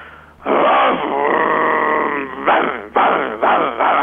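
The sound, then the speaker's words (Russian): A person, asked to bark, imitates a dog, starting with a long, drawn-out whining howl, then three or four short, loud bark-like yelps in quick succession, slightly muffled as if over a phone line. “Вот, давайте полайте.”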